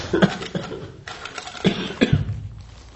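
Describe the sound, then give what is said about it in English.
A series of harsh, voiced coughs, about five or six bursts in irregular succession over a few seconds, with brief pauses and no talking. “You mean that you sneeze and cough at the same time?”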